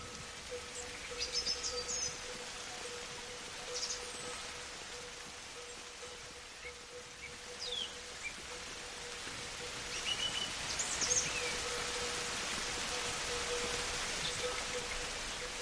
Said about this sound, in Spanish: Hay que ser muy, muy paciente para pasar horas y horas, por ejemplo, bajo el sol intenso de nuestro verano, o la nieve del Alto Pirineo de Lleida en invierno, o la lluvia del Orvallo del Cantábrico.